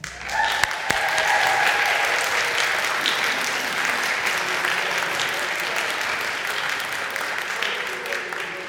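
An audience breaks into sustained applause to receive the newly baptized, a dense wash of steady clapping from many hands that holds at an even loudness for several seconds, with faint voices mixed underneath.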